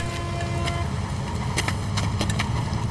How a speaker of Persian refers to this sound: اتوبوس اومد، همگی آماده شید.